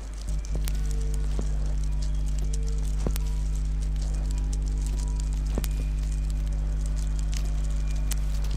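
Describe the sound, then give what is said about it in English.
Sharp electrical crackles and snapping discharges pop irregularly over a steady, low humming drone of generators and transformers, with sparse louder clicks standing out against the constant buzz. “I started to listen to the drones of the generators and the transformers, and I started to realize that I was hearing electrical discharges as well”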